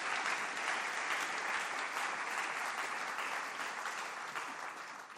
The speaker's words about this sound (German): Da könnte man jetzt mal klatschen. Für Hannah Arendt und Winfried Kretschmann.